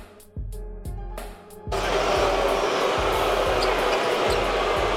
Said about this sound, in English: They're really booing. That's not a couple they're of people. They're booing. They're really booing. That's not a small faction of fans up in the high seats. No, they're booing.